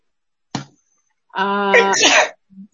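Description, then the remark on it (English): A single loud sneeze during a meeting call: a drawn-out voiced wind-up bursting into a breathy, noisy release, preceded by a quick click and followed by a faint short sound. “Gesundheit.”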